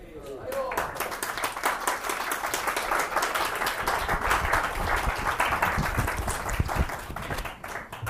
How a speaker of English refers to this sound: Nowhere else do they clap for me. You guys are great. They don't clap for me in LA.